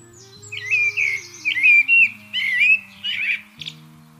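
A common blackbird sings a series of short, fluting, melodious warbled phrases, clear, with brief pauses between them and a low steady hum underneath.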